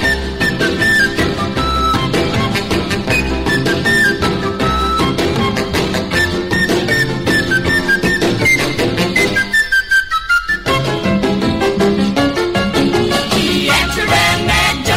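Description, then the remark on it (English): A man whistles a bright melody through the gap left by a lost upper middle tooth, over a loud, full rock and roll band, carrying on steadily throughout with only a brief break in the lower instruments partway through. “But he's never gonna worry, cause he gets a big hand every time he whistles with a rock and roll band.”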